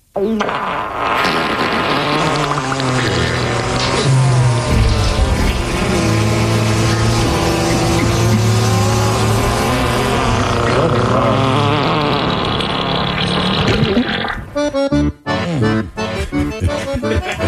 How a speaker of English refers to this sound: Please play some farts and the captain, speaking of the Cap'n Jackaloff.